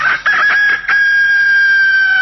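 A rooster crows loudly, a few choppy opening notes followed by one long, drawn-out sustained call that holds steady to the end.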